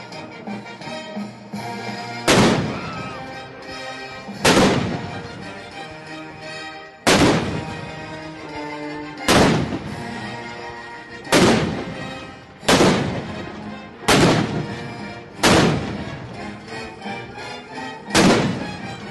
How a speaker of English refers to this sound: That was a live recording of his 1812 overture by the Japanese army, complete with real howitzer cannons.